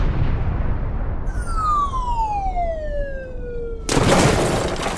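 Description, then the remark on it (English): A long descending whistle slides down in pitch, then a sudden loud explosive blast of a cannonball erupts and gives way to a sustained rush of crashing, falling debris that continues to the end. “There was an explosion and then some fallout.”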